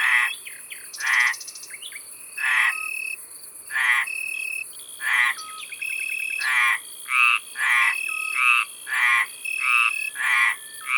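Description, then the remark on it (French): Italian tree crickets trill steadily in the background while two male frogs, barely 5 cm long with smooth green skin, give loud, rasping calls about once a second, taking turns in a regular rhythm, each defending its corner of a pond. A nightingale sings far off. No voices. “On entend un rossignol au loin et aussi beaucoup d'insectes comme le grillon d'Italie.”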